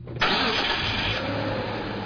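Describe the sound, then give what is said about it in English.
A car engine cranks and catches with a sudden loud start, then settles into a steady, rumbling idle, with no voices. “It lubricates and adds power for a quick clean start.”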